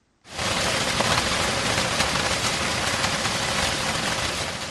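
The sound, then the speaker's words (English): Heavy rain pours down in a dense, steady roar, starting abruptly and holding constant, loud with a continuous hiss and no voices; a Monday downpour in Kambele, a village in Baturi district on Cameroon's eastern border with the Central African Republic. “A heavy downpour on Monday kept businesses closed in Kambele, a village in Baturi district on Cameroon's eastern border with the Central African Republic.”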